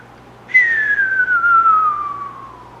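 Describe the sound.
A person whistles a single long, steadily falling tone imitating a cartoon bomb dropping through the air, like in old Bugs Bunny cartoons, starting high and sliding lower for about two seconds, fairly loud.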